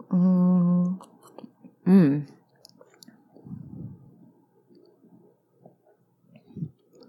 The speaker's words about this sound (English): I'm walking around my apartment. So I did pour myself two fingers, and the color is like a nice sort of yellow slash amber. And I'm gonna take a taste and let you listen to me take a taste while I step over a cat and walk around. So here we go.